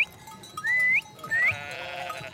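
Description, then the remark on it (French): Goats bleat as they are brought in for the evening, in a few short, nasal calls one after another, the last trailing off into a longer wavering cry with no one speaking. “Il fait les courses, le marché est son royaume, accompagne ses frères à l'école et rentre les chèvres le soir venu.”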